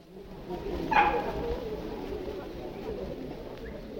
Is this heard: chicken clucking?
no